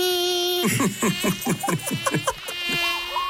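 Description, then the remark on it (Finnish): A steady high-pitched mosquito whine drones throughout an advertisement for mosquito and tick repellent, with a voice briefly talking over it in the middle before the buzz continues alone. “Arvaa, mitä tästä kesästä puuttuu. No? Hyttyset.”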